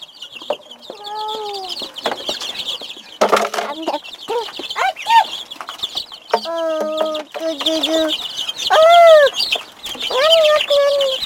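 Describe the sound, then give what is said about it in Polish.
Chickens and a rooster clucking in a busy series of short, rising and falling calls, with a steady high chirping hum from the surroundings underneath. “Jak robią koguty, kochanie.”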